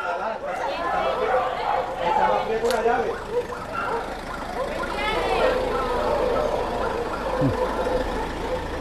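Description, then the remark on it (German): Dogs bark and yelp as 23 dogs are loaded into a transport vehicle amid a busy outdoor scene, with a vehicle engine rumbling and people chattering in the background, the barking rising in a cluster midway through. “Es dauert nicht ganz eine Stunde, dann sind 23 Hunde verladen und beginnen die Fahrt in ihr neues Leben.”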